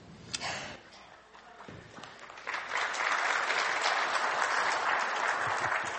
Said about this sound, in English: We're clapping a lot this morning.